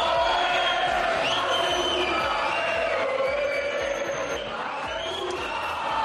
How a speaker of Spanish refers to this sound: Los aficionados del Valencia que le gritaban a segunda, pero lamentablemente a más de 400 kilómetros en el Camp Nou jugaba el Barça y gritaban esto. El mismo grito sonaba en Valencia, sonaba en Mestalla y sonaba en el Camp Nou.